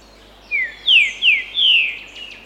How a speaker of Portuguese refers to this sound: Você já parou para ouvir o canto das aves?